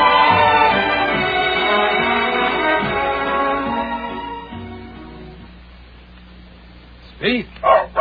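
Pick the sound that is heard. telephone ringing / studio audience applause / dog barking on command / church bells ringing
dog barking on command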